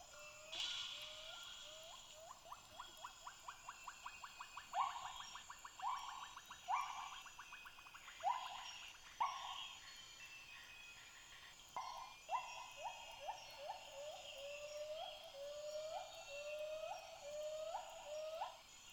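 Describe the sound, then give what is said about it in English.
White-handed gibbons give long series of loud, high-pitched rising hoots over the surrounding forest, the notes quickening into rapid bursts, then slowing and swelling again over a steady insect-like hiss. “Their high-pitched hooting sounds boomed out over the surrounding forest, and this is something what it sounds like.”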